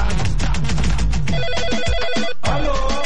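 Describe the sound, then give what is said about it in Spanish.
A WhatsApp incoming-call ringtone chimes in the middle, a short melodic pattern of bright electronic tones that repeats briefly over busy background sound before cutting off. “Tenemos WhatsApp a esta hora.”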